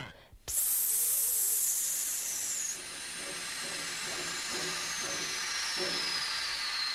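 Steam abruptly bursts out in a loud, steady hiss at Löwenberg railway station and keeps rushing for several seconds, while a faint voice calls out somewhere underneath.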